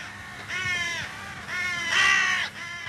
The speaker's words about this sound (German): Krähen sind am Himmel, die schwarzen, gescheiten Vögel, so will es die Sage, weisen verehrten Menschen den Weg.